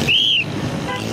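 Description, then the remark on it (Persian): Busy city street traffic noise in Karachi, Pakistan, a steady rumble of vehicles, with one sharp, high whistle blast near the start cutting above the din. “این مشکل به خصوص در شهرهای بزرگ مانند کراچی در پاکستان که سر و صدا یک همراه دائمی برای همه مردم است، به طور خاص جدی است.”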